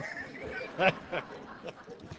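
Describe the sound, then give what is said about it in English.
A voice imitates a duck, giving a few short, nasal quacks spaced unevenly over a couple of seconds, with the first quack the loudest and the later ones softer. “A quack act man.”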